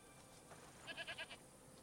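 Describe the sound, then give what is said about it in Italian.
A goat bleats once, a short quavering cry broken into four or five rapid pulses, heard fairly faintly over a quiet background with no one speaking. “Vedo che hai trovato la capra.”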